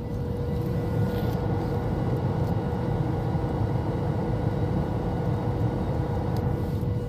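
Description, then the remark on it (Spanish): A steady, continuous low roar of airplane jet engines with a faint steady whine on top, droning evenly without pause, as heard from inside the cabin while the plane approaches Miami at night. “O los propulsores, que es como se llaman los motores de los aviones.”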